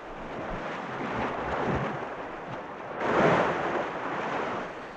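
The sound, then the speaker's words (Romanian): Sea waves wash steadily in a broad, hissing roar, swelling gently and then surging into a louder break partway through before settling back. No one speaks. “Ah, marea!”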